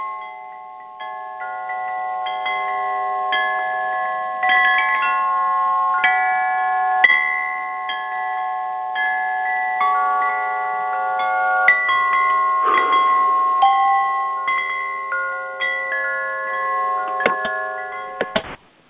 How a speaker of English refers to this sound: But first, let's just take a breath and go ahead and get centered and allow ourselves to show up. Use my handy chimes here.